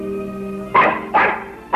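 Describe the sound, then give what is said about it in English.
A female dog barks three sharp, loud times, the barks spaced unevenly after a brief sustained whine at the start. “Get that dog out of here, do you hear me?”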